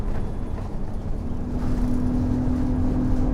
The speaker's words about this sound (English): The words, Stagecoach Gold, mark the side of the bus as it drives off. A dark blue car follows a short distance behind.